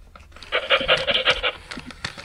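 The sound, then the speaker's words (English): A fur-covered mechanical robot toy dog, the size of a normal dog, pants in a quick, steady run of breathy huffs, fairly loud, with a few softer puffs trailing off afterward and no one talking. “saw a mechanical robot dog named Biscuit and purchased it for me for Christmas”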